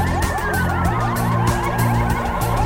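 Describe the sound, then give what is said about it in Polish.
Several symbolic protest sirens sound together outside a hospital, where doctors, nurses and other hospital staff have come out of the building, their pitches rising and falling in overlapping sweeps over a steady low rumble, loud and continuous with no voices. “W tym momencie właśnie zaczynają się te syreny symboliczne. Posłuchajcie.”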